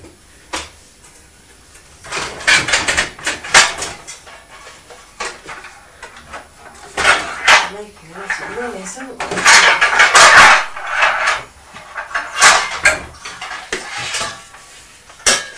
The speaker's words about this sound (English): Those are tins, bun tins.